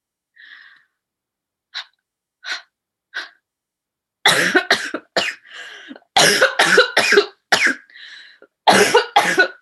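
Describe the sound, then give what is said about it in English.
During a stage performance, a few soft, short breathy puffs give way to fits of loud, harsh coughing, the coughs coming in rapid clusters with raspy intakes of breath between them. No one speaks. “as we all listened intently to a combination of breathing, coughing, and rich descriptions that frame the stage readings within a vaudevillian kind of”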